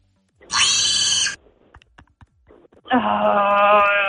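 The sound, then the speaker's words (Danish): A pig cries out twice, each a loud, drawn-out, squealing grunt lasting about a second, separated by a brief gap filled with faint rustling and clicks. “Ja, det er nemlig en gris.”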